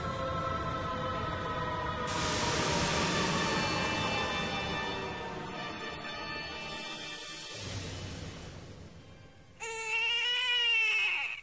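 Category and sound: human body sound, newborn baby crying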